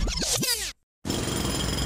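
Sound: construction site noise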